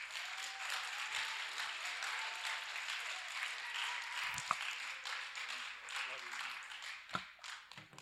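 An audience applauds steadily to welcome a speaker one morning, a dense, even wash of many hands clapping that runs for about eight seconds, with a few sharper individual claps standing out near the end.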